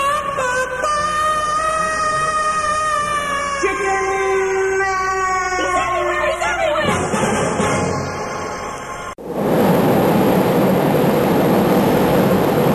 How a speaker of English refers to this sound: It's night aboard a commercial jet airliner, aloft high in the sky.